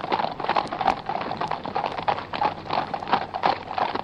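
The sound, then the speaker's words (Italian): Steady clip-clop of horse hooves trotting at a brisk, even rhythm as horses pull a cart, with a faint rolling rumble like cart wheels underneath. No voices. “Dunque fece mettere a posto i attaccare i cavalli al suo carro e partì.”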